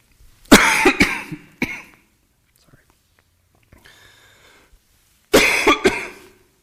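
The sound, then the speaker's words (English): Two loud bouts of harsh coughing and throat clearing, each a quick cluster of bursts, separated by a quiet stretch with only faint breathy sounds. “I don't think putting a second cough drop in is going to help, so just going to have to bear with me, I guess.”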